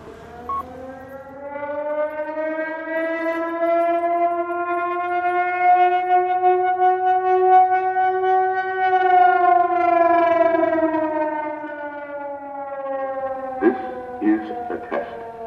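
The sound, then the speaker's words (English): A loud civil defense siren, recorded in the Bay Area, wails steadily for over ten seconds, its tone swelling and then slowly sagging, before cutting off into a few brief, scratchy bursts of sound. “6RY, net control, standing by for net, for siren.”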